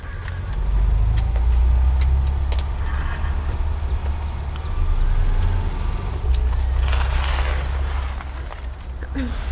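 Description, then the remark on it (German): A car engine rumbles low and steady, with faint crunching and scattered clicks over the drone as the vehicle rolls slowly down the driveway of the Wallington estate (Gut Wallington), coming toward people walking up it. “Sie waren gerade die Einfahrt hinaufgegangen, als ihnen ein Auto entgegenkam.”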